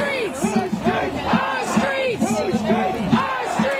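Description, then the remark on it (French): A large crowd shouting together in the streets, many voices rising and falling in loud, overlapping chants and cries, dense and continuous with no single speaker standing out. “Allumer la télé, donc, passer du dedans au dehors, de l'absence à la foule, du silence au vacarme, de la distanciation sociale au rassemblement, de la peur de l'autre exorbitée à l'urgente solidarité.”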